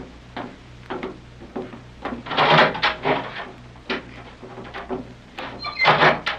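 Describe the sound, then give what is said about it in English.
A heavy steel door grinds and rattles as it slides open, in uneven scraping bursts that swell loudest midway and again near the end, over a low steady hum. “We'll begin with this door in front of us.”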